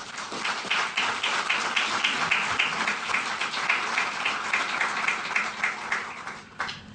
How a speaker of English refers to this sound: All right. So we're done with the award announcement, so a big round of applause for all of you.